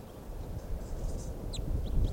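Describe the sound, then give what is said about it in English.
Faint, high bird chirps from a recording of birds numbered 585 and 586, a few brief notes scattered over a steady low rumble of background noise, with no voices. “So recording now, birds 585 and 586.”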